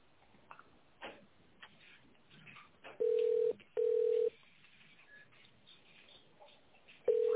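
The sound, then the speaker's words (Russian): Telephone tones while dialing an internal extension in tone mode on a call to the Vakord company: loud, steady half-second beeps at one mid pitch, two in quick succession, a pause, then a third, over faint line hiss and clicks. “Наберите внутренний номер в тоновом режиме или дождитесь ответа секретаря.”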